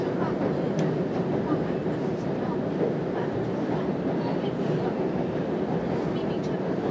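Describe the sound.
A steady, dense rumble of a subway train running through a tunnel late on a Monday night, loud and continuous, with faint clicks and indistinct murmuring voices of passengers buried underneath.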